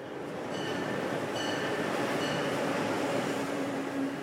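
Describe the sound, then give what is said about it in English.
A steady, continuous rumble fills a car of an Amtrak Excella high-speed passenger train, with a dense wash of rolling noise and faint high tonal whines drifting through. No one speaks. “I chatted with a passenger in the dining car.”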